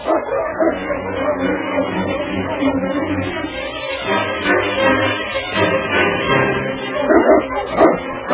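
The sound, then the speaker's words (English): Several sled dogs bark and yip almost nonstop, a dense, excited chorus, with the busy, restless sound of a team on the move. “Look at that dog travel. He sure sets a fast pace.”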